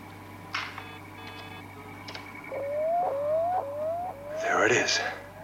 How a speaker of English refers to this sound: Orbital satellite identification signal. Yes, but that is on the interstellar frequency band.